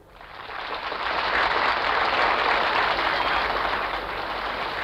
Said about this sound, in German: Der Beifall und Jubel der Menge gaben ihm recht.